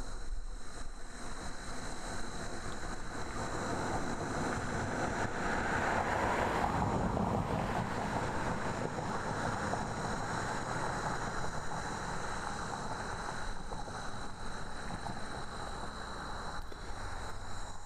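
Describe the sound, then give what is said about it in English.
A car approaches from the left and passes along the road, its broad rushing whoosh swelling to a peak midway and then fading as it departs to the right, over a steady outdoor background hum. “And in fact, I've got my back to the road, and there's a car about to pass me. You'll hear him approach on the left and then depart on the right.”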